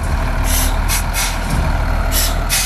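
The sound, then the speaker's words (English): A heavy cement mixer truck, arriving to pump concrete down a well to plug it, rumbles steadily with a loud, low engine drone, while several sharp bursts of air-brake hiss cut in and out over it. No one speaks. “Then a cement mixer shows up that is used to pump concrete down the well.”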